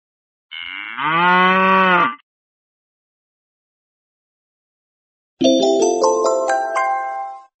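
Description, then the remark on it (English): A cow lets out one long, loud moo, and after a few seconds of silence a bright, rising electronic chime plays. “Pigs oink and cows moo.”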